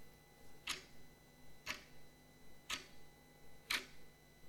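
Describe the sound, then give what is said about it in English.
A clock ticks four times at a steady one-per-second pace, each tick a sharp, crisp click over a faint, quiet background hum, with no voices present. “Yet it seems in all our daily lives, the thing which governs our time is something we can physically see, the clock, the watch.”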